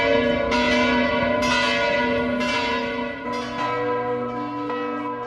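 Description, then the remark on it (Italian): Large church bells of the cathedral in Piazza Dante, Lugano, Switzerland, toll steadily in mourning for the death of Pope Francis, each loud strike ringing out with long overlapping resonance, several bells sounding in a slow, continuous peal with no voices. “Le campane della cattedrale di Piazza Dante a Lugano”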